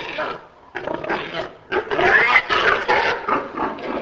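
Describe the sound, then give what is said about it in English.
Dozens of enormous white pigs squeal and grunt in a concrete holding pen with caged bars on a small pig farm some 3 hours north of Mexico City, the noisy cries overlapping in bursts that swell loud after a brief lull, chaotic. “Farmer Carlos Dobler stands before a concrete holding pen squirming with enormous white pigs.”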